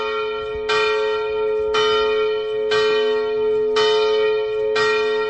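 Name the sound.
church bells ringing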